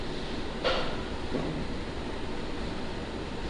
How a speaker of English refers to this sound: These waves, listen now, from 7 hours ago.